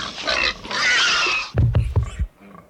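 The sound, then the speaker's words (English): A pig squeals loudly and shrilly for over a second as it is being slaughtered, then breaks into a burst of harsh, rapid grunts and snorts before falling quiet. “You ever seen anybody kill a pig before?”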